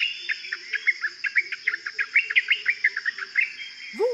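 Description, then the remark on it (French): A common myna, with an all-black head and bare skin around its eyes, calls in a quick, steady run of bright chattering notes over a constant high insect-like drone, ending with a lower rising whistle. “Vous l'appelez le martin triste, avec sa tête toute noire et ses lunettes de peau nues autour des yeux.”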